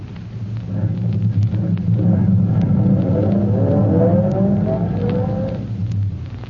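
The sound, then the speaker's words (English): A car engine rumbles and rises in pitch as it accelerates out of the shadows of an alley, then eases off as the car pulls up. The low, steady drone stays prominent throughout, with no voices. “He waves a signal with his electric torch and waits for his car to emerge from the shadows.”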